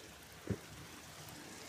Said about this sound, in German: Ich mache jetzt hier mal diese Tür zu. Nur kurz zur Info, falls hier ein Geräusch hört. Der Regen nimmt nämlich zu. Ja, deutlich.